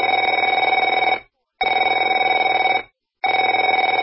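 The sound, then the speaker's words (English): A telephone bell rings loudly in three long bursts, each about a second long, with brief silent gaps between them, a bright rattling trill with no voices. “Afraid to answer it?”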